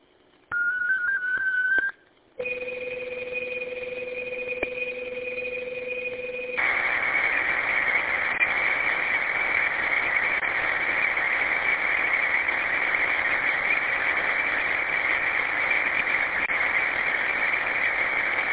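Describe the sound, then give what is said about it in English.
Digital radio data tones sent by the FL Digi program on an Android phone or tablet as a short text message: a brief rising chirp, then steady dual-pitched carrier tones that shift into a dense, continuous warbling hiss of data transmission lasting many seconds, loud and unbroken, no voices. “We're using an Android program called FL Digi.”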